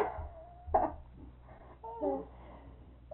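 A dog whimpers in a few short, thin whines, one drawn out and a couple of wavering higher cries, quiet with soft background noise and no talking.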